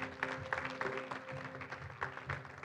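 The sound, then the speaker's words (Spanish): A church audience claps and cheers in praise to the Lord, a dense wash of applause with scattered shouts rising over steady sustained tones, fairly loud and continuous throughout. “Levanta una alabanza de palmas al Señor.”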